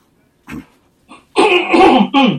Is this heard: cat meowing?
no